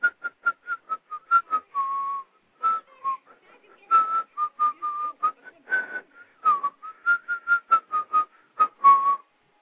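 A person whistles a bouncy melody in quick, separate notes with brief pauses, the tone wavering in pitch. It sounds close and fairly clear, with no talking over it.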